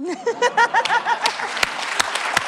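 An audience bursts into a standing ovation, a dense patter of clapping with a few sharp, loud claps standing out, while voices briefly cheer over it at the start.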